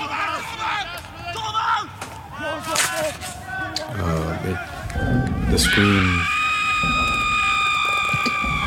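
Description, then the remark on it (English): A person lets out a loud, strained human scream that rises and holds steady for several seconds, following a burst of ragged, chaotic vocal noises and shouts. “The scream.”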